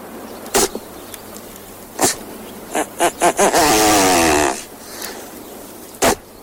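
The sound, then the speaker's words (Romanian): Great bustard mating display calls during the mating season, in Romania's Western Plain near the town of Salonta: short, harsh, rasping bursts, a quick run of pulses, then a sustained buzzing, grating rattle about a second long, and one last burst. No voices. “Ok, nu e tocmai cel mai plăcut sunet din lume, dar așa fac dropiile în perioada de împerechiere.”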